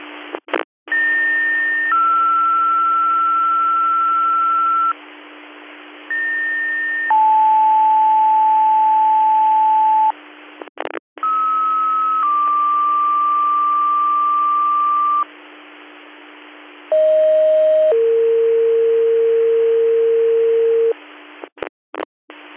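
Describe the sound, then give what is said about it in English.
Radio dispatch alert tones, the second set of tones sent by Control to a rescue squad for a call: several two-tone pages of long, steady pitches, each a higher tone then a lower one, over a hissy radio channel, with squelch clicks between sets and no talking. “Second set of tones for your call.”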